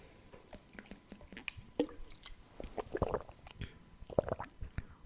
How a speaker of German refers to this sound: Ja, Stille bedeutet jetzt hier immer, ich trinke was.